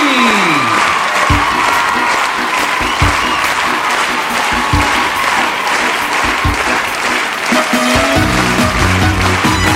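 A crowd claps loudly and steadily for nearly ten seconds, with scattered cheers mixed in, as a band's music starts up under the applause toward the end.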